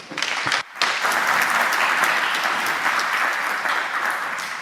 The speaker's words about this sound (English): A big applause